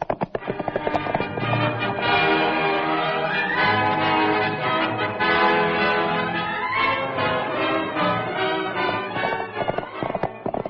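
horse hooves clip-clopping

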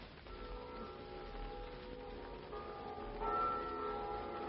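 many church bells ringing

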